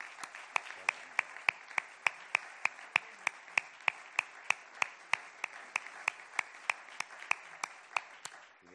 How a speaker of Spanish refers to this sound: Muchas gracias a ellos, a las hermandades, que son las verdaderas protagonistas de Círculo de Pasión y las que me gustaría que le diéramos un aplauso grande.